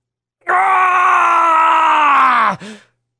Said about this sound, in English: Roy released a gut-wrenching scream, one that tore at his very vocal cords.